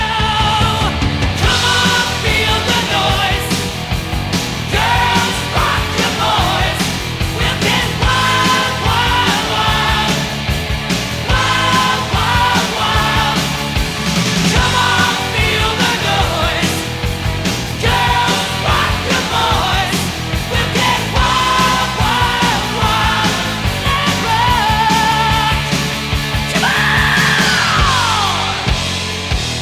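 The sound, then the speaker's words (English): A loud live heavy metal song pounds on without a break, with distorted guitars and driving drums, as a crowd of voices shouts and sings along throughout. “They all sang along with this song, and which was? …!”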